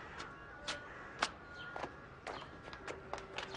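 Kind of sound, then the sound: human body sound, footsteps of someone walking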